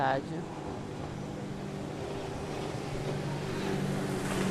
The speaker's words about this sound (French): Voilà, il y a un jet ski qui passe justement. Voilà, on sait que ce genre de transport est interdit sur les cours d'eau.